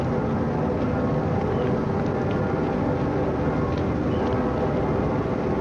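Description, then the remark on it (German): A steady, dense low rumble of engines fills the scene as many small motorboats and NATO flotilla boats run on the Rhine, lining up behind a convoy from the right bank. Loud and continuous, with a faint murmur of voices beneath. “Neben den Booten der NATO-Flottille haben sich jetzt auch etliche kleine Motorboote auf dem rechten Rheinufer, vom rechten Rheinufer her, hinter den Konvoi geordnet.”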